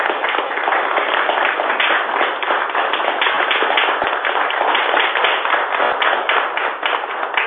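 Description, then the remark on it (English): Sustained audience applause honoring three people for their work on the pension system, a dense wash of many hands clapping steadily and loudly for several seconds without a break, with no voices standing out above it. “I would like to just call for all three of you to sort of stand up and applaud and thank every one of you.”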